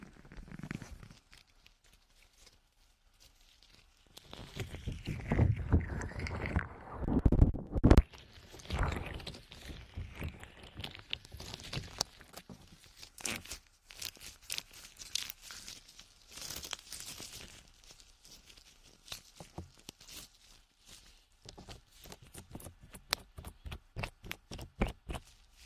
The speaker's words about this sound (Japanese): スライムらしい音が出ている。